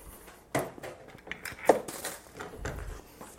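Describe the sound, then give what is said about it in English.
Dishes being cleaned up while cookies bake in the oven, with a bowl and other items put into the dishwasher: a few sharp clatters and clinks of hard kitchenware, irregular and moderately loud, with soft handling noise and rustling between them and no talking. “Might be fun to listen to me clean things up on HPR.”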